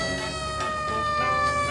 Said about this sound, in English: All folks in crowd, look out for ambulance! He is out of control! I'm sorry! I am just learning how to drive ambulance!